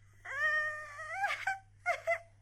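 child crying

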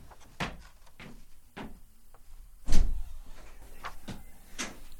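door being opened

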